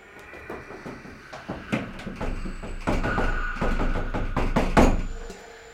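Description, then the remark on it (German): A house door that will no longer open is rattled and shaken hard, a rapid, irregular series of loud knocking clatters that builds in intensity over several seconds, with no voices. “Die Tür geht nicht mehr auf.”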